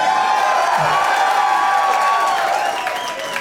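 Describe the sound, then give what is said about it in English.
A loud crowd at Cafe Istanbul in New Orleans, during the Hell Yes Fest, cheering and whooping, a dense sustained roar of many voices with scattered shouts and clapping, holding steady for several seconds and easing slightly at the end. “There's a lot of people here, but I've heard like 1,200 people be less loud than you guys.”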